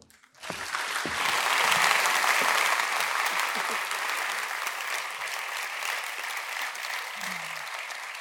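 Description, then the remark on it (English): A large audience breaks into sustained applause, starting abruptly and holding at a steady, dense level of clapping for several seconds with no voices standing out. “Wow, that's a great crowd.”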